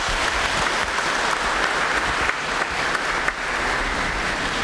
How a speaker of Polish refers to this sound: Witamy serdecznie, księże Marku, tutaj u nas w Kaliszu u świętego Józefa. Wielkie brawa dla księdza Marka.